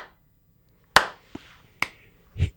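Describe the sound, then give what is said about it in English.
A few sharp, isolated hand claps ring out with pauses between them in a Skol thunder clap, a slow deliberate rhythm of crisp smacks with no voices, quiet in between. “Clap that skull all the way out the house.”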